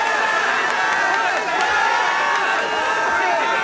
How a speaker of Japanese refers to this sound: はい、毎度毎度のご声援ありがとうございます。